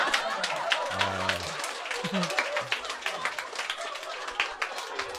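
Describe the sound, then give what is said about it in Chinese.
An audience at a special show in Shenyang breaks into sustained, dense applause for a performer's father seated in the front row, many hands clapping steadily for the whole stretch, with a couple of brief voices calling out underneath early on. “当时是所有的观众就知道了他的爸爸第一次到现场来看，然后全场哗给他鼓掌，给他鼓掌。 给爸爸鼓掌。”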